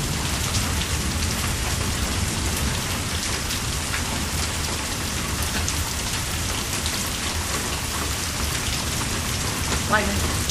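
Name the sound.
heavy rain falling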